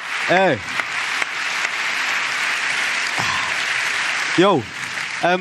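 A steady wash of applause runs for the whole stretch, dense and fairly loud, with a few short rising-and-falling vocal whoops cutting in at the start and near the end.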